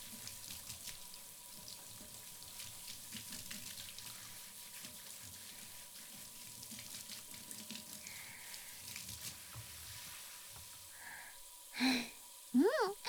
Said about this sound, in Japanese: これで良さそうじゃ。ほんならたらいにお湯をためていくけ。